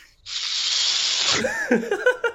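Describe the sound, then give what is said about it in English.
A sharp, steady hiss of breath sucked in through clenched teeth lasts about a second, loud and airy, then breaks off into a person speaking. “Yeah, you clench your teeth for people who are listening, and you wanna try this at home, little home activity for the kids.”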